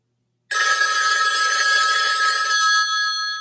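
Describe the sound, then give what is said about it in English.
A telephone rings with a loud, continuous bell-like trill that starts abruptly after a brief silence and sustains, bright, before easing slightly near the end. “Her phone ends up ringing, and it's Tasha.”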